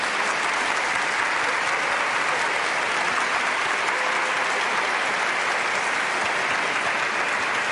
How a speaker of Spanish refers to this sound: Pues mira, un aplauso para él.